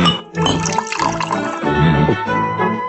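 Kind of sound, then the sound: household object, water being poured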